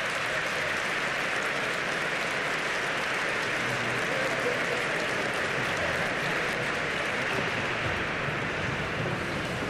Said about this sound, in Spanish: Así que un aplauso para esas dos iglesias hermanas.